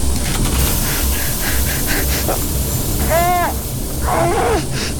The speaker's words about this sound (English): Okay, inner door sealed. Start pressurization. Matching suit pressure.